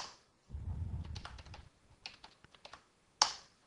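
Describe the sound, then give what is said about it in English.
Typing XML into the Visual Basic editor on a computer keyboard: a quick, irregular run of light key clicks over a low thumping rumble, then a brief pause and one louder, sharper keystroke. No one speaks. “Notice that the editor understands how to format the XML as I'm typing.”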